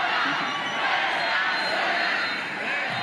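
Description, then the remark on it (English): A large crowd shouts "You are not alone" and cheers in support of Sheinbaum, a dense, continuous roar of many voices, loud and steady throughout with rising and falling chants and no single voice standing out. “"You are not alone," people shouted yesterday in support of Sheinbaum.”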